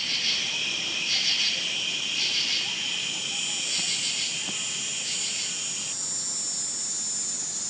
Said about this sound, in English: And we'll just pause for a moment now to listen for some cicadas. Cicadas are an insect that we hear in the warmth of summer days. They make a buzzing sound that is really characteristic of August in the Northeast.